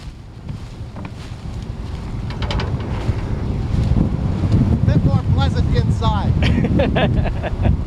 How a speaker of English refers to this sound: Wind-whipped dust and dry leaves of corn plants greeted us as we got out of the truck and walked across the field before climbing a ladder and into the cab.